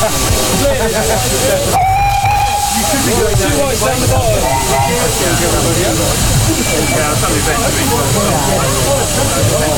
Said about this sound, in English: Start recording now, because we're probably going in a second. Right, do the whistle now.